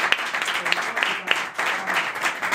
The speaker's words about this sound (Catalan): Un fort aplaudiment per la Polifònica, sí, que ens ha acompanyat tota aquesta estona.